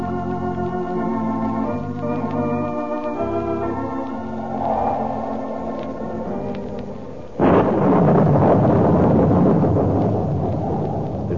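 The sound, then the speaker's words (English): Orchestral music plays for several seconds, then a loud thunderstorm breaks in abruptly on a stormy night in Reina de Los Angeles, with heavy rolling thunder and a steady roar of rain continuing strong to the end. “Stormy night in Reina de Los Angeles, and none except those with urgent business dare leave their haciendas.”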